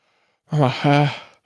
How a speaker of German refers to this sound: Und einfach nur durch den Mund zu atmen und die Nase überhaupt nicht zu benutzen, das kann jeder auch mal selber ausprobieren, das ist nicht so leicht.